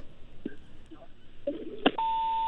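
A phone line clicks and crackles with faint noise, then a steady electronic tone begins and holds, loud and continuous, after a listener's call to a radio call-in program drops.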